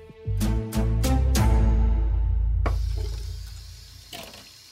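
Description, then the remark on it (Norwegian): Dishes clatter with four quick sharp knocks as the washing-up is done after dinner, then water runs steadily from a tap with a rushing hiss, broken by one more clink near the end. No one speaks. “Bente Katrine Haug var I dårlig humør da hun sto ved oppvasken etter middagen.”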